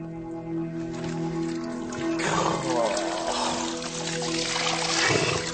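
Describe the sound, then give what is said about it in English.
Spring water is scooped and poured in a couple of splashy bursts from a dug-out spring source over a steady background of running water and a low hum, moderately loud; the spring keeps refilling with water filtered through the rocks. “And look, if I dig down into this, however much water I take out, it's just gonna keep refilling.”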